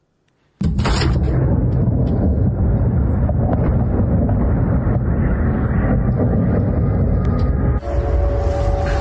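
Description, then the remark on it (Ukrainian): A sudden loud explosion bursts out of silence during a morning missile and drone attack on Belgorod, Russia, with air defenses operating, followed by a long, heavy rumbling roar that stays loud for several seconds before shifting near the end. No one speaks. “Сегодня утром Белгород подвергся обстрелу ракетами и дронами. Работало ПВО.”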